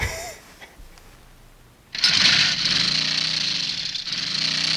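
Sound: motorcycle engine running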